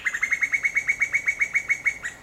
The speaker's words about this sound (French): Vous êtes sûr ? C'est vraiment un coucou ça, on s'est pas trompé ? Ah, c'est vraiment un coucou. Écoutez bien. Mais c'est un coucou femelle, c'est une coucoute